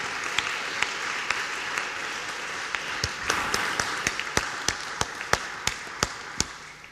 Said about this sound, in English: You've been tremendous, and we are grateful, and we are going to give you a great, huge round of applause. Thank you.